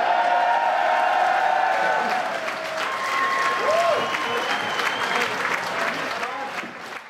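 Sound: applause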